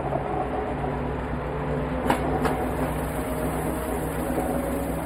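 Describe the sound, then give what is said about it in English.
A steady rumble of a train pulling away from a stop along the tracks on a gloomy, cloudy, gray day, with a low mechanical hum and two sharp clacks in quick succession midway through. “So we're seeing the train leave what is presumably a stop, maybe the train yard, right?”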